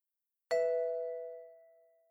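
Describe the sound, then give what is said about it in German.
A single tone from a family's home answering machine sounds on its own after a German greeting that asks callers to leave their name and phone number: a sudden bright chime that rings clearly and then slowly fades away over a second or two, with no voices. “Sprechen Sie bitte Ihren Namen und Ihre Telefonnummer nach dem Ton.”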